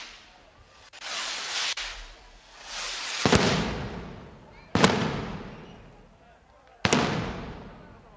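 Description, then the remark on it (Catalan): Festival rockets going off: three sharp, loud bangs at irregular intervals, each followed by a long fizzing, crackling tail that fades out, with a rushing hiss between them. “a veure si podem sentir els coets.”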